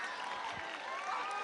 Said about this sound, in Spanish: Bueno, fuerte el aplauso, ¿no?